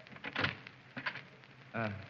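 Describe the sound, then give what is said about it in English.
An unlocked door is tried and pushed open: a couple of quiet latch clunks, then a brief tonal creak as it swings, fairly soft with no talking. “Now, let's try the door. Oh, it's not locked.”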